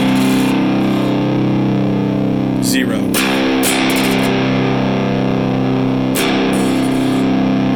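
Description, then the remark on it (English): A fuzz-drenched electric guitar rings out in thick, sustained chords, loud and buzzing, played through a fuzz pedal with the volume fully up and the fuzz at 2 o'clock, with a few sharp new strums breaking in partway through before the notes hang and slowly decay. “So currently, again, we have the volume dimed and the fuzz at 2 o'clock.”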